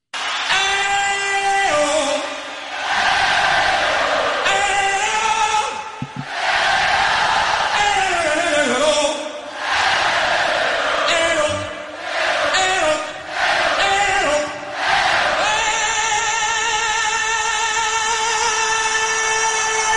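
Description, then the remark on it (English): A concert crowd and a singer trade loud, drawn-out vocal calls back and forth in short bursts, the roaring audience answering each sustained line, ending on one long held note. “And then just starts doing this back and forth with the crowd.”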